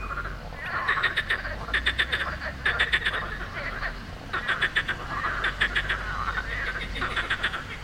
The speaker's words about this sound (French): I was hoping we would hear that. Ce qu'on entend, ce sont les grenouilles de Sospel, the morning chorus of frogs chirping on the river Bévéra.